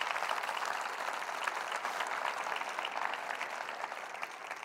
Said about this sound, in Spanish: Amén. Amén. Dale un aplauso a Él.